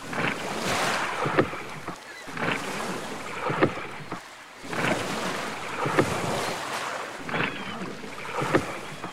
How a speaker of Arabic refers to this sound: كانت الساعة تشير إلى العاشرة ليلة، وكان زورق يسير على مياه البحر نحو جزيرة صغيرة يسكنها اللصوص.